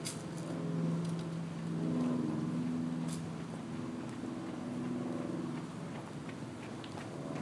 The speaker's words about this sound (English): Boats going by on the river.